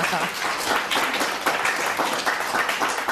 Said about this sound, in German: Die Hütte brennt. Wo gab es mehr Applaus, für den Fernsehpreis oder hier?